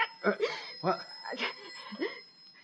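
telephone ringing

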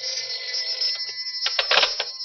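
telephone ringing

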